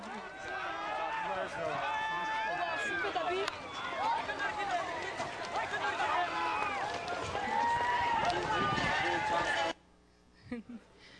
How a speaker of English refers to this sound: This is a Central Asian game that's similar to polo, only it's played with a decapitated goat's body as the ball. Here's a little clip here.